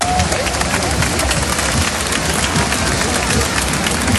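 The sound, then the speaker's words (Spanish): A dense, steady wash of crowd noise at an outdoor military parade in Spain, with applause-like clatter and murmuring voices blending into one continuous roar that holds at the same loudness throughout. “Es el sonido de un desfile que ha estado marcado por dos novedades principales.”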